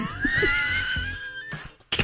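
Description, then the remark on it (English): A man's drawn-out, high whining inhale rises and holds for over a second, then breaks into a short, sharp burst of a sneeze at the end. “Is that a hiccup? A sneeze? It was a sneeze.”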